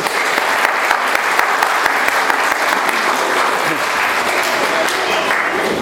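Steady, loud applause from an audience, a dense wash of many hands clapping that holds at an even level for several seconds without fading.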